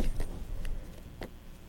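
A few bright metallic jingles of keys being shaken come in short bursts over a low rumbling background, moderately quiet.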